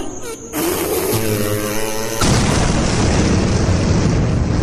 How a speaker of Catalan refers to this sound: I de cop, el bou va fer un pet.